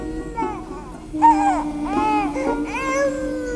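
infant crying

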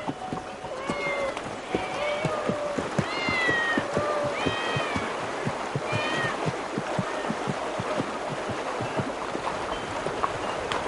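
cats meowing

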